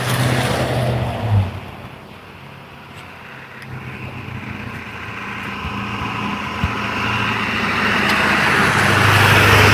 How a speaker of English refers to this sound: Noisy traffic this morning.